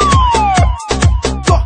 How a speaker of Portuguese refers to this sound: Toca a sirene!